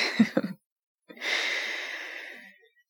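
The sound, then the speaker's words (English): A slow, deep breath during a simple breathing exercise: a couple of short breathy huffs, a brief pause, then one long, steady, airy exhale that gradually fades. No one speaks. “Now, we're just going to do some simple breathing.”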